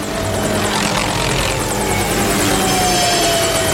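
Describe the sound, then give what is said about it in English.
A loud, steady helicopter drone fills the scene, rotor chop pulsing rhythmically over a constant engine whine, continuous with no voices. “The helicopter lurches and they slide off in free fall.”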